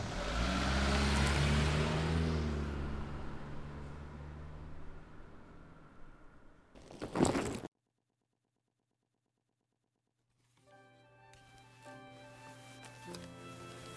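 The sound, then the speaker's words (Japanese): A car engine runs loudly, then its rumble gradually fades as the car pulls away to be parked, followed by a short burst of noise, a moment of silence, and soft music. “私は車置いてから行きますんで、ロビーに入って待っとってください。”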